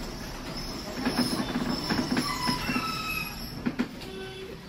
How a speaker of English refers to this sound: Chadby? Chadby. The tram stops at Chadby.